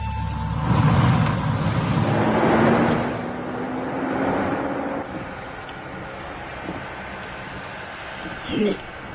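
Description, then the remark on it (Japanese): A car engine rumbles with a hollow, echoing tone as the car enters an indoor parking garage, then settles to a quieter idle-like hum with a short knock near the end. “それにエンジン音が反響してる。ってことはどこかの屋内駐車場に入ったな。”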